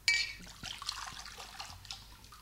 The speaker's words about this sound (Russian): Вот кувшин, который я только что сделал. Налей в него молока.